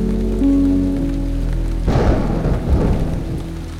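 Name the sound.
rain falling with thunder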